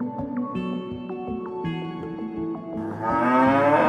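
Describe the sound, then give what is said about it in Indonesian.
Cattle low and moo repeatedly in a steady series of deep calls, several animals overlapping, with one louder, drawn-out moo swelling at the end. “Sapi sangat bermanfaat bagi manusia karena menjadi sumber protein penting.”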